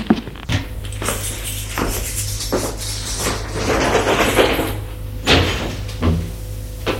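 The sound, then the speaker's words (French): A man opens the door and enters his home: a few sharp wooden clunks and thuds spread across several seconds, over a steady low hum and some shuffling movement. No one speaks. “Il entre chez lui.”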